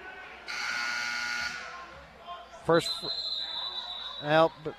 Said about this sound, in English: They're not going to count that first free throw as they sounded the buzzer.